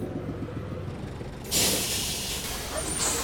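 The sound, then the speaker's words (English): A crowded number 7 bus pulls up, idling with a low, rumbling engine, then a loud, sustained burst of air brake hiss cuts in midway and continues to the end. “I think the bus is too full for all three of us to get on.”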